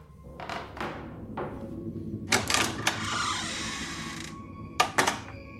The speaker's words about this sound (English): I quickly threw on my shoes and opened the screen door.